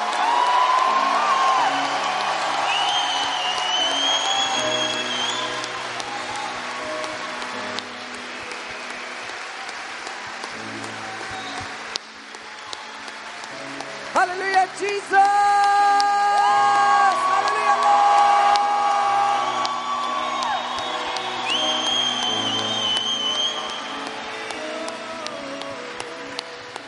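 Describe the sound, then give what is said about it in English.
A large crowd at a Christian worship gathering claps and cheers loudly and continuously for nearly half a minute, giving God a shout, with whoops and shouts rising over steady applause while music plays underneath. “Let's just give God a shout in this place.”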